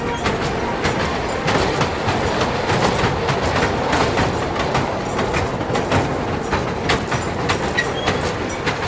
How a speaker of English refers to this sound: There is a little train, and it goes around on a roundabout. On a roundabout, only children.